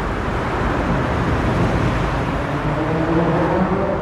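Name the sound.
road traffic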